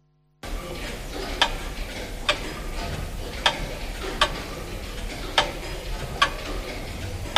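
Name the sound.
mechanical clock ticking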